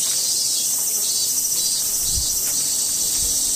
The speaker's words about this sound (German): Das sind Zikaden und die Dinger sind abnormal laut, bis zu 120 Dezibel, wie eine Kettensäge oder ein Presslufthammer. Hier werden sie liebevoll Klang des japanischen Sommers genannt. Es sind übrigens nur die Männchen, die so einen Lärm machen.